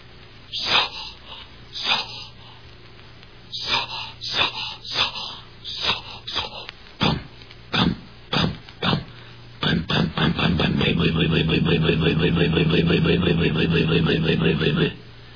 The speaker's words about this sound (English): I stepped into the cockpit to loosen her up with a few turns. You could hear it were cold, so I advanced the spark and gave it more choke and cranked her up in earnest.